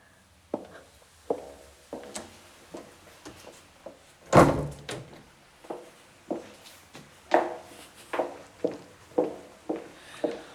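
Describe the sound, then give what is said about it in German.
Footsteps thud at a steady pace while a heavy door on the left, marked by an emergency exit sign and leading outside, opens and swings shut with one loud bang partway through, followed by more steps walking on. “So, jetzt gehen wir an die frische Luft. Da, Türe links, dem Pfeil des Notausgangszeichen entlang.”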